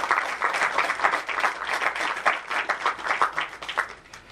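A crowd applauds steadily to welcome a drinks writer as speaker, many hands clapping in a dense, crackling wash that holds at a fairly even level before thinning slightly at the end, with no voices over it.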